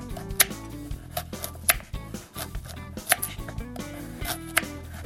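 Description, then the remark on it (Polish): A knife chops through a peeled carrot on a cutting board, cutting it diagonally into pieces in a quick, uneven series of crisp knocks, with soft background music playing throughout and no one speaking. “Obraną marchewkę kroimy w kawałki. Ja bardzo lubię kroić ją tak pod skosem.”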